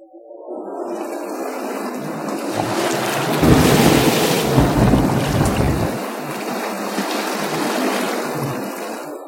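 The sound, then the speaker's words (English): A violent storm at sea, a day out from the China coast, threatening to swamp a ship: a loud, continuous roar of heavy rain and wind, swelling into a deep rumbling surge of thunder midway before settling back to a steady downpour. “A day out from the China coast, the ship encountered a violent storm that threatened to swamp it.”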